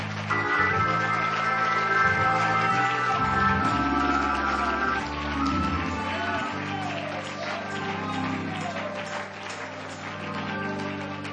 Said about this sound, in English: And if you're ready to let God reach down and transform you this evening, if you're willing to let Him have His way in your life, just go ahead and give Him one more hand clap of praise.